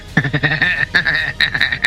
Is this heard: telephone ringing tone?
no